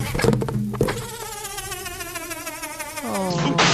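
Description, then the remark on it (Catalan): A balloon used to make a sound effect produces a buzzing, insect-like whine that holds a steady, quivering pitch for about two seconds, then slides downward and breaks off into a rougher burst of noise. “Amb un globus podien fer coses com aquest so, per exemple.”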